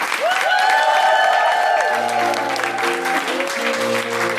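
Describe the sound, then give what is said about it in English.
Loud, steady audience applause with some cheering fills the whole stretch as the performers are applauded at the close of the show, while a bright musical theme with sustained and stepping notes plays over the clapping. “Please give it up for”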